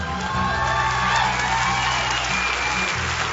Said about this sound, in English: You know what the Bible says, and you know why we're, you know why it's party time for us? We're celebrating, we're clapping.